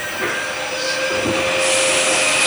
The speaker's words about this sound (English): This is 7th Avenue. This is the Queensbound G train. The next stop is 4th Avenue, 9th Street. Stand clear to close the door.